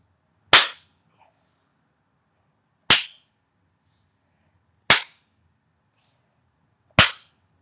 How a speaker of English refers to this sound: Now you turn up the pain. Spank me harder now. Pain that I enjoy, that I demand.